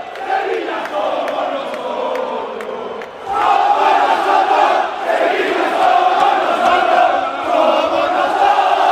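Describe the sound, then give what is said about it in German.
Sevilla FC fans jeer their team with sustained booing and shrill whistles as the players come to the stand after a 0–4 Champions League loss to Manchester City; a dense continuous roar that dips briefly and then swells back even louder. “Die Mannschaft kommt in die Kurve und wird ausgepfiffen und niedergebuht.”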